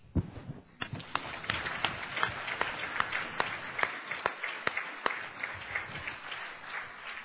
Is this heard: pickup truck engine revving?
no